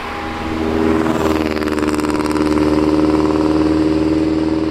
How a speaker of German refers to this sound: Die Polizei kann jedoch für unnötiges lautes Beschleunigen oder Aufheulen lassen des Motors Bußen verteilen.